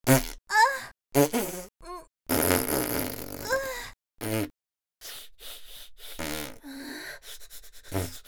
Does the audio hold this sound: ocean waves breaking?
no